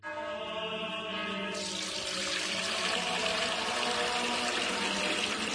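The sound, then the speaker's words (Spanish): Fuente Umbría spring water pours steadily and continuously into a container to replace used-up holy water, a loud rushing flow whose tone shifts upward slightly as the vessel fills, with no voices present. “es que no nos quedaba agua bendita.”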